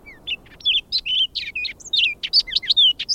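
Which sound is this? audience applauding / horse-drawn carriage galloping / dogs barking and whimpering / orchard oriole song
orchard oriole song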